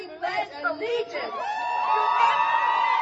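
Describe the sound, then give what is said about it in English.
A crowd wearing pussy hats at the Women's March on Washington cheers and whoops as Janet Mock speaks, scattered shouts at first swelling into a loud, sustained roar of many voices around the listener. “to Janet Mock, speaking at the Women's March on Washington over a crowd of growling pussy hats.”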